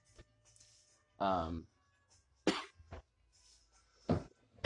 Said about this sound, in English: As I say that, I start coughing.